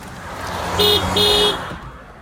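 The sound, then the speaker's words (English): Two short car horn honks given as a birthday greeting from a car pulled over under a tree on a street, the second a bit longer than the first, sounding over the low steady rumble of an idling engine. “I'm gonna give you two honks for your birthday.”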